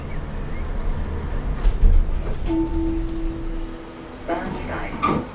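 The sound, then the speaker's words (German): A U1 U-Bahn subway train to Warschauer Straße rumbles into a station with low, steady mechanical noise, a sustained brake whine and hiss, and brief clanks; faint voices mingle in the background. “Komm, wir fahren hoch zur U-Bahn-Station.”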